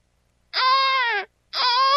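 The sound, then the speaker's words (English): A recorded sound effect of a baby crying in two loud, drawn-out wails, each about three-quarters of a second long with a short pause between, high-pitched and strained with a harsh, buzzing tone. “The sound effect I keep on file of a baby crying.”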